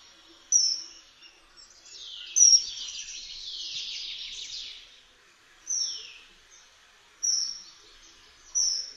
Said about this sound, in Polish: Zdradza go jednak charakterystyczny, prosty, wysoki gwizd. Spokojny ptak wydaje pojedyncze, jednosylabowe gwizdy.